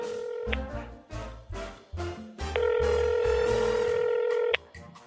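A phone call being placed: a brief steady tone, then a quick run of short dialing beeps, followed by a loud, continuous ringing tone lasting about two seconds before cutting off.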